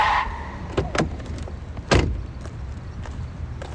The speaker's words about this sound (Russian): На синем Порше я обгоняю Мерин. Чё ты мне сигналишь? Ты ж, бля, не уверен. Выхожу из тачки, громко бахнув дверью.